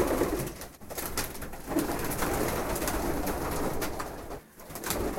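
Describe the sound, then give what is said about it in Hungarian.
Pigeons coo softly and repeatedly, their low, rolling calls overlapping in a continuous murmur, with rustling and shuffling noises and no one speaking. “Ő a kedvenc galamb?”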